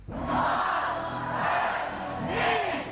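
A large crowd at a results party on Margaret Island (Margit-sziget) roars and cheers in sustained, loud waves while awaiting the announcement of university admission point thresholds. Many voices shout together, swelling in intensity over a few seconds.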